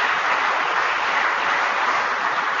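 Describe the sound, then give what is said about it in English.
A crowd applauds the National Association of State Departments of Agriculture and the American Farm Bureau Federation, a dense, steady wash of many hands clapping at an even, sustained loudness throughout, with no voices standing out. “Let's give both of these groups a round of applause.”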